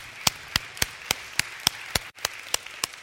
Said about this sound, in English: Cool stories, aren't they? Wow, yeah, you can clap. That's exciting.